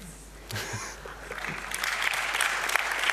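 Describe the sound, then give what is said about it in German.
An audience applauds after a brief pause in response to a speaker's optimistic remark. The clapping builds into steady, dense applause that grows louder toward the end, with no voices over it. “Klatschen für Optimismus, yes.”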